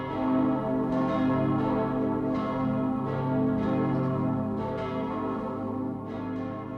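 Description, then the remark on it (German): A dense peal of ten church bells ringing all at once for Christmas, overlapping strikes forming a continuous, loud, resonant wash of tones with no talking. “Und diese 10 Glocken, wenn man die dann alle gleichzeitig hört, das ist schon ein emotionaler Höhepunkt.”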